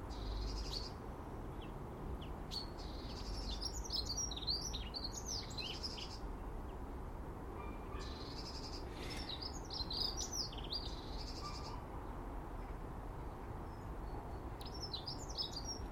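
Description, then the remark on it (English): A blackbird chirps in short, bright bursts, in clusters at the start, middle and end, while eating the remnants of porridge put out earlier, with tiny snowflakes falling, over a steady low outdoor rumble. “Mr. Blackbird's polishing off the remnants of the porridge put out earlier.”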